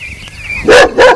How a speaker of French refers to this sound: Et puis, il y a un gros chien, tout noir, qui court en aboyant